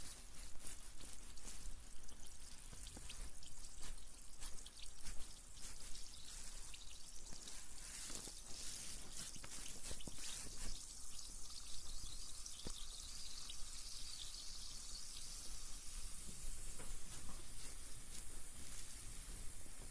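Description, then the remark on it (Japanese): Carbonated water, used after a carbonated foam to remove dirt from the skin and promote blood circulation, pours and fizzes steadily for the whole stretch, a continuous hiss of tiny popping bubbles with faint trickling underneath and no voices. “炭酸フォームで汚れを取って、炭酸水でさらに汚れを取りつつも血行促進です。”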